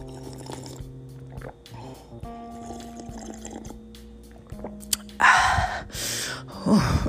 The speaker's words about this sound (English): Let me see if I can get it together. Let me see. Let me sip on some of this water. Hold on.